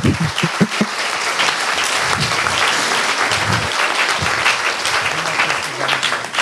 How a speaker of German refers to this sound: Ich würde mal bitten, dafür auch einen Applaus für die schönen Bilder.